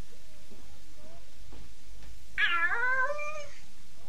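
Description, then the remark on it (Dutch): A voice imitates a cat's meow: one drawn-out, rising-then-falling mew lasting about a second, heard clearly after a quiet stretch with faint background noise. “Er is hier een kat in de buurt. Wel nee, dat geluid maakte ik zelf.”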